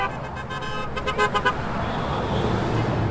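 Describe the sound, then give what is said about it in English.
Several car horns honk in short, overlapping bursts over steady traffic rumble, the blasts clustered in the first second and a half before fading into continuous road noise; motorists on the Saconnet River Bridge honking in agreement with about 100 toll protesters on a Sunday evening. “Motorists honked in agreement.”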